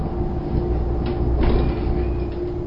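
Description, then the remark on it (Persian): A bus's engine drones steadily with a low rumble, swelling slightly as it approaches from a distance through cold fog, with a brief hiss and rattle partway through. No one speaks. “صدای از دور می آید. بیشک این صدا متعلق به اتوبوس است، اما من چیزی نمی بینم.”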